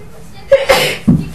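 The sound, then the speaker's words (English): A single sharp sneeze with a quick inhaled build-up and a bright burst of noise, followed by a brief low vocal sound, all within a second and a half. “Bless you.”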